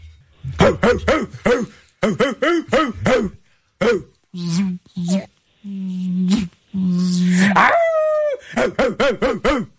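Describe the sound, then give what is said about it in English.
A person imitates a dog, loud, with quick bursts of bark-like yips broken by several drawn-out, wavering howls that climb and fall in pitch, answering a question in dog on the Roz and Mocha Show animal edition. “No. In dog. In dog.”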